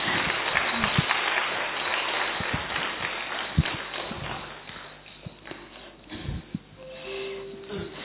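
A crowd claps to welcome Dr. Nirmala Didi in a dense, crackling wave of applause that is loudest at the start and gradually thins out, with a few sharper individual claps standing out toward the end.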